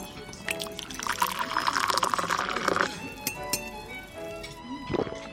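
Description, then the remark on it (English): Tea is poured steadily into a cup for a couple of seconds with a bright, rising trickle, followed by light clinks of china and a short splash near the end. “Shall I pour?”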